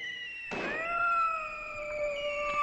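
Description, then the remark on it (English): A sudden burst of noise gives way to a long, drawn-out yowl, steady and slightly wavering, of dozens, maybe hundreds, of cats caterwauling together in boxes dropped by parachute from the back of a plane, loud with no talking. “Cats. Dozens. Maybe even hundreds of cats.”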